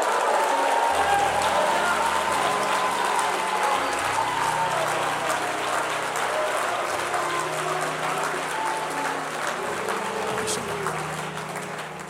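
An audience applauds and cheers to the Lord steadily for about twelve seconds, a dense, loud wash of clapping with scattered voices shouting underneath, tapering slightly at the end.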